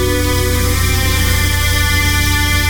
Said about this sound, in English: This isn't ordinary music. Can you hear the hidden low tones in there? This is music from Fizz, the world's most advanced sleep and power nap system.